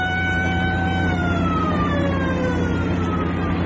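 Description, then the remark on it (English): An army patrol car siren wails loudly and continuously, its tone sliding slowly downward, over a steady low rumble of engine noise with no one speaking. “Just an army patrol car.”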